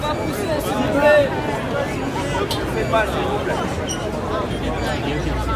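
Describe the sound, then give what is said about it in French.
A dense, agitated crowd jostling in a queue murmurs and chatters all at once, many overlapping voices forming a steady, restless hubbub with occasional louder calls rising above the babble. “Mais quand au bout de ces 100 ans d'attente ressentie, il y a du mouvement, ça donne ça.”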